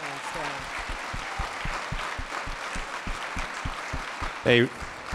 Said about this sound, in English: So before I tell you about my father, let's give a round of applause to the people who served our tables and here.